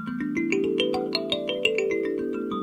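A thumb piano played through effects pedals: a quick, steady run of plucked metallic notes stepping up and then back down, each tone ringing on and overlapping the next, with no voices.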